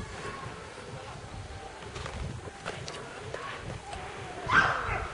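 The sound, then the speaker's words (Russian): A dog gives a short, sharp bark near the end, following a few softer yips against a steady, noisy background. The barking is brief. “Собака еще пока не предполагает, что ей грозит.”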